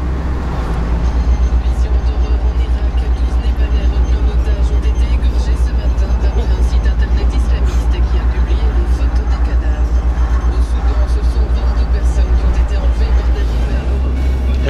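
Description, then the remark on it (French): A truck carrying 23 tonnes of frozen fries rumbles steadily and loudly as it drives along the road from Luxembourg past Thionville into France, a constant low drone with muffled voices occasionally over it. “Sur un camion 16.”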